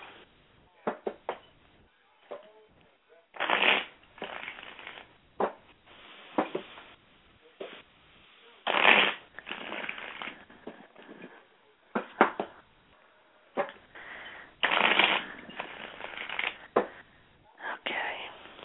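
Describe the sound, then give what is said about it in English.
Shuffling of a deck of tarot cards during a reading: several papery riffling bursts separated by soft taps and brief pauses, moderately quiet, with no one speaking. “Okay, what I want you to do is focus on that question while I shuffle.”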